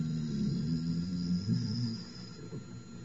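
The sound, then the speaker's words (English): A voice hums a low, steady buzz imitating bees, droning continuously for about three seconds with slight wavering pitch and a few small swells, fairly quiet. “They were imitating the sounds of the bees.”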